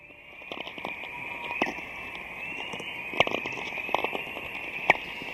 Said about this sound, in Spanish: No mucha gente sabe que las auroras no solo se ven, sino que también producen sonido, que es este sonido que estamos escuchando ahora. Son como pequeños chasquidos, a mí me parece como una manada de licaones, también en la sabana.